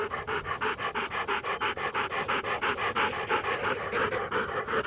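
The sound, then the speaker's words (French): A dog pants steadily in a forest, quick breathy huffs repeating at an even, rapid rhythm for several seconds with no voices present. “C'était bien un chien bleu qu'il avait suivi à la trace et retrouvé dans la forêt.”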